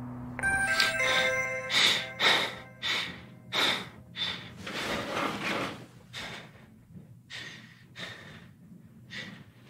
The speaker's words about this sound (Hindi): अली बेटा घंटी बजाओ।